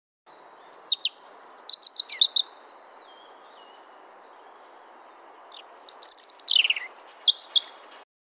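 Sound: european robin song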